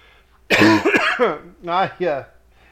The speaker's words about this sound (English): I got to laughing and had to cough.